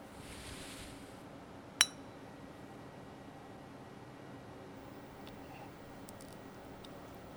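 A single bright clink of wine glasses touching in a toast, short and ringing, against a quiet, faintly hissing background.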